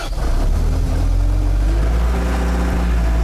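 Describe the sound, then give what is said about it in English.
The engine of a Land Tamer, an amphibious multi-use mini-tank classified as a boat, runs steadily at a low, rumbling pitch, with a loud droning hum and slight shifts in tone as it works, no voices present. “The mini-tank in question is known as a land tamer. It's a multi-use vehicle, and it comes with a bunch of bells and whistles.”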